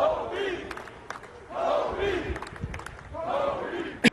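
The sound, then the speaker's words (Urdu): A large stadium crowd at an NFL game chants "Kobe" in a steady, repeating rhythm as news of Kobe Bryant's death arrives, three loud swells rising over a constant roar of massed voices, with a sharp clap or bang near the end. “N F L کے ایک کھیل کے دوران کوبی کی موت کی خبر پہنچتے ہی ہر طرف کوبی کوبی کے نعرے گونج اٹھے.”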